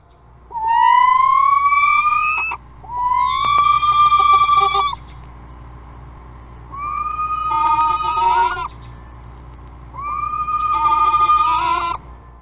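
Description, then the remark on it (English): A screech owl, a small nocturnal predatory bird, gives four loud, wavering, whinny-like screeching calls, each lasting a second or two and separated by short pauses, over a faint steady background hum; recording from the Jollyville Screech Owl House on YouTube. “Now, these efficient little killers got their nickname due to the screeching sounds that they emit.”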